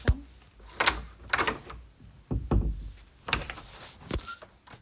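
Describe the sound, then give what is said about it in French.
A castle door is pushed open into the living room with a series of sharp clunks and rattling knocks spread over a few seconds, followed by softer scraping movement. “Ils poussent la porte et entrent dans le salon.”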